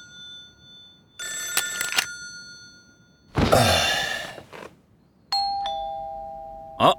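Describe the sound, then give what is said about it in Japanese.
A doorbell rings in a few separate bursts: a bright electronic chime, a harsher buzzing ring, then a sustained two-tone chime, all fairly loud, with no one speaking. “あ、ほらほら、またお祝いが届いたみたいだぞ。”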